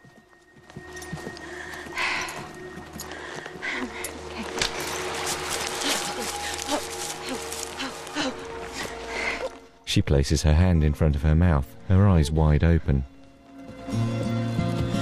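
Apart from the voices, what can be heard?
horses walking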